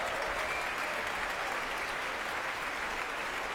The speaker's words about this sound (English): Being warmly applauded by the Opera Rara Chorus, also making its proms debut, their course master Madeline Venner.